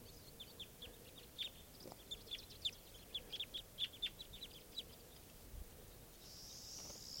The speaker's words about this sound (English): A very large flock of crossbills just arrived, and they're sitting in the trees here above where I used to have nets set up. And flocks mostly type 2 birds. These are wild birds.